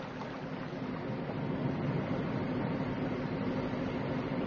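A shallow river babbles steadily, a continuous wash of rushing, gurgling water at an even, moderate level with no voices.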